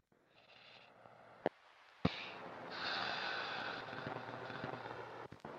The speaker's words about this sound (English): I have recorded you in your sleep. Your stomach rumbles. Your breath is shallow.